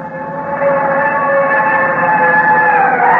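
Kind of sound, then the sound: vehicle, fire engine siren passing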